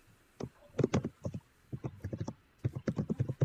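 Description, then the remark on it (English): Rapid bursts of clattering keystrokes, someone typing fast on a keyboard in quick irregular clusters with short pauses between them, moderately loud, with no voices; the typist is posting to Reddit. “Who is typing so crazy? Can you please stop?”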